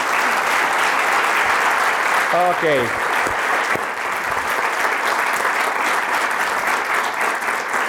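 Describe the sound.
Sustained audience applause fills the whole stretch, a dense, steady wash of clapping from a crowd, with a brief spoken word heard faintly through it.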